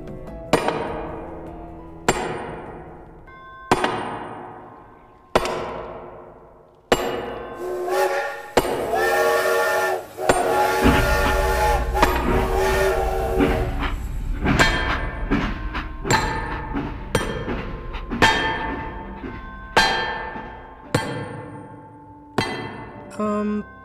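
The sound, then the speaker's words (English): Ringing metallic hammer blows strike railroad spikes in a steady, evenly spaced rhythm, then a loud low rumble of a passing train swells in midway while the clanging strikes continue over it; John Henry building a railroad into a cafeteria. “Just see John Henry building a railroad into the cafeteria?”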